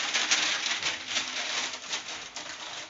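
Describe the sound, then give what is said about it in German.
Steady, dense crackling of baking paper being taken out for baking cookies, a bright papery rustle with many tiny crisp pops running continuously for a few seconds without any talking. “Moment, es knistert kurz.”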